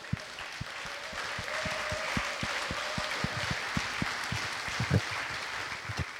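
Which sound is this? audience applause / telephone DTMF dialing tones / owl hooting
audience applause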